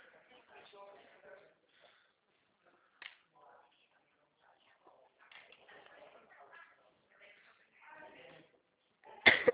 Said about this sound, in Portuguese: tô com uma tosse.